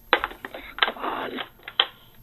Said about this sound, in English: He had a little trouble hanging up the phone there at the end, didn't he?